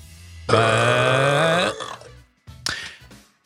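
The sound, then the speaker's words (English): A person imitates a dog burp with one loud, drawn-out, gravelly belch lasting over a second, then a few shorter throaty grunts after a brief pause, alone with no talking. “I think you have to actually pull a dog burp clip now.”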